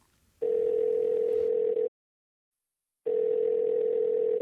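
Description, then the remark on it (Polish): A telephone ringback tone heard while a call is placed to Zuzia: two long, steady, mid-pitched beeps separated by a pause of about a second, loud and clear with no voices. “Dzwonię do Zuzi.”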